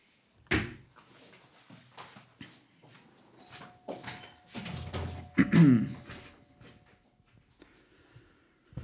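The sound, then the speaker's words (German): Door noises as someone goes to answer the front door after the doorbell rang: a sharp clunk, then a series of knocks, rattles and shuffling as a door is handled and opened, with a louder thud of movement toward the end. “Jetzt ist gerade geklingelt. Ich gehe einmal ganz kurz zur Tür.”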